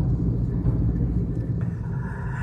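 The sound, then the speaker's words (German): Steady low traffic rumble from cars driving past on a street, with more cars than usual because an intersection is closed until October, and a vehicle's swell rising near the end as it passes. No voices. “Okay, es wird jetzt, ist halt jetzt so, dass dass mehr Autos jetzt wahrscheinlich die nächste Zeit, also bis Oktober, ist eine Kreuzung gesperrt, mehr Autos bei uns vorbeifahren werden in der Straße jetzt.”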